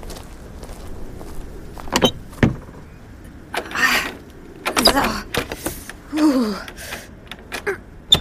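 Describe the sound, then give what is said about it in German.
A stuck door being forced open: a few sharp knocks, then repeated rattling shoves and scraping strains with a short creak, mixed with effortful breaths. “Die Tür klemmt.”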